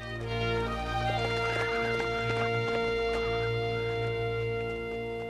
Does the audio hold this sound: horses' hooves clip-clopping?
yes